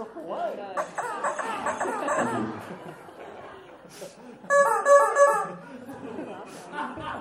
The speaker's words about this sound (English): Someone asks, would it be okay if I threw a rubber chicken at you?